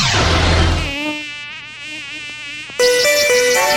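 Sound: dengue mosquito buzzing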